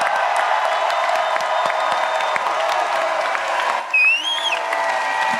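A crowd claps steadily to vote for the winner of a contest, a dense, even wash of many hands that holds for several seconds, with a shrill rising whistle cutting through briefly before the clapping carries on.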